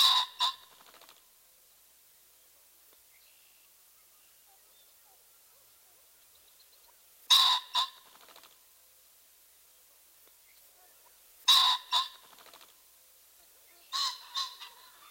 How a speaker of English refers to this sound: Our final bird in this group is the ring-necked pheasant. His typical vocalization is a loud, two-noted squawk.